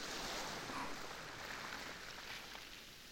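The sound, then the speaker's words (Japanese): A steady, soft wash of ocean waves against the shore of a deserted island, a continuous hiss-like surge that eases slightly toward the end, heard on its own with no voices. “波がもう寝ているあなたの髪を濡らしてる。そろそろ移動しないと波があなたをさらってしまうわ。”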